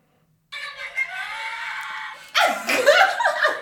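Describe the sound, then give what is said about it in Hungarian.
A steady rushing roar builds, then high-pitched screams and shrieks burst out, rising and falling over the noise of a fast-moving ship amusement ride, with some laughter mixed in. “És üvöltöttem, és sikítottam, és előttem, mögöttem így.”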